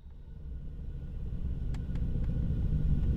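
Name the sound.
truck driving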